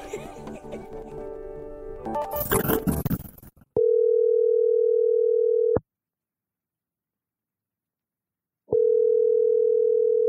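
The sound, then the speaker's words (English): After a brief burst of noisy music, a steady electronic telephone tone sounds loud, holding for about two seconds, falling silent, then starting again, as Radiolab places a call. “We are going to start with a phone call.”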